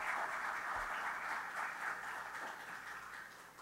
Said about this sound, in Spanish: Les pido que se pongan de pie, por favor. Les damos un aplauso a los ganadores. Muchas gracias.